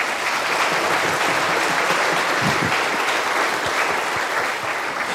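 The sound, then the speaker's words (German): Sustained applause from a sizable crowd, steady and fairly loud throughout, a dense wash of many hands clapping with no pauses or voices standing out. “Also ich finde, das ist auch ein Applaus wert.”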